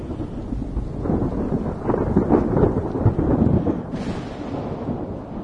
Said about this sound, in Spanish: Bueno, y con la tormenta de fondo, que ya parece que está pasando el temporal